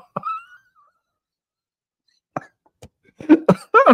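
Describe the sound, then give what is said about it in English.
A brief groaning vocal sound, a pause, then a string of harsh, raspy coughs from someone getting over a lingering cold: first a couple of isolated bursts, then three loud ones in quick succession. “I'm going to cough.”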